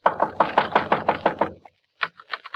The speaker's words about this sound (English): At one end is a small wooden shed big enough for a half a dozen garbage cans with a cheap padlock on the outside. Just on a hunch, I go over to the shed and knock.